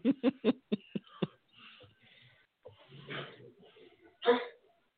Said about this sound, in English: Was that … coughing?